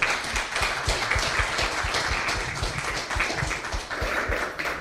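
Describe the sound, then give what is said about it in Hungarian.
Steady audience applause thanking the speakers at the end of a talk held as part of the Francesco Kávézó program series, with many hands clapping at once, a dense, continuous patter that holds an even loudness for several seconds, with no voices over it. “Nagyon szépen köszönjük, egy nagy tapssal köszönjük meg.”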